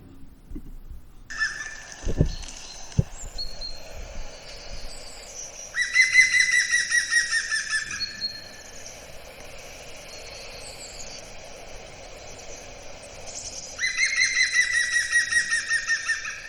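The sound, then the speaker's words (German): A woodpecker gives loud, rapid series of ringing call notes in two bursts several seconds apart, with fainter calls in between. No one speaks. “Ja, und das Besondere ist eben, dass Spechte ja Spechte ja eigentlich anders kommunizieren, also Buntspecht zum Beispiel und die anderen Arten, die trommeln ja”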